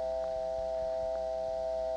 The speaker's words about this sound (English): This is an intercept line in a step PBX. That is an actual step PBX dial tone. The busy signal is mixed in just because that particular PBX has mixed up tones, as we heard on the previous call.